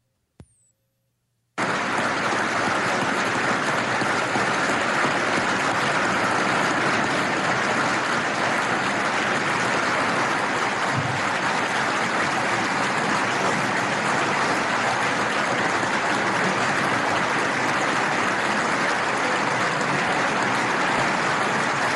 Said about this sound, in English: Well, so you're not hearing static on your radio. This is a whole bunch of hands clapping right. and a C-SPAN encounter where they're applauding what Mother Teresa said about the greatest, what does she say?